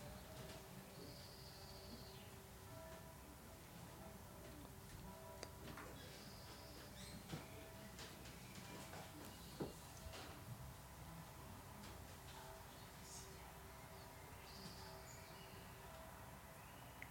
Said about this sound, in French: On entend un petit chant des oiseaux.